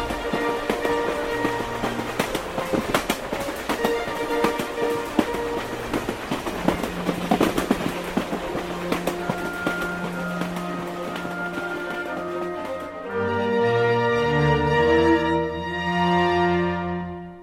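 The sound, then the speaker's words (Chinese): A passenger train carrying travellers to another city rumbles steadily along the rails with rapid clacking over the track joints, fairly loud, before a bright melodic chime-like tune takes over near the end. “小朋友们，我们到了，要下火车咯，东西一定要记得拿好。”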